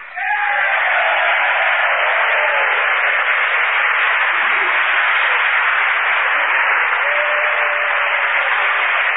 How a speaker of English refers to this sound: The whole House and the gallery rises and applauds as General MacArthur, followed by a delegation from both houses of Congress, comes down the aisle toward the Speaker's rostrum. Everyone is clapping, Democrats and Republicans alike.